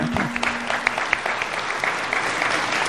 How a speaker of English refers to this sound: Okay. Aren't you clever? You got a round of applause for just standing up.